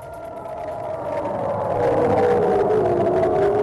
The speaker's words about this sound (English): Sounds of sirens in Ashkelon, Israel overnight as Palestinian militants fired rockets toward Jerusalem, further escalating the most violent confrontation in months between Israel and militants in the Gaza Strip.